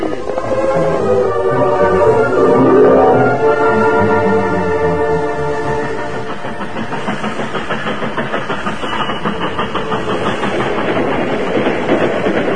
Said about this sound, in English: Scheduled for a 14-hour stop in a southern Missouri town before continuing its journey, the westbound train pulled into the station at 10 minutes after 11 one night.